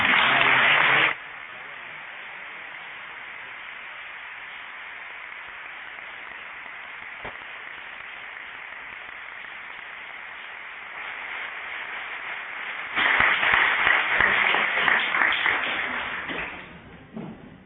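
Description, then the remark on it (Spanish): Audience applause: a loud burst of clapping that drops to a softer, steady patter, then swells into a second strong round before tapering off at the end. “Ahora sí, aplaudidles.”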